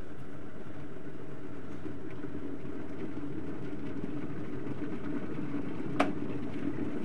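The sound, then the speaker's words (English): A kettle heats water for making coffee with a steady rumbling roar that holds level throughout, and a single sharp click comes near the end. No one speaks. “Let's get that kettle really hot again.”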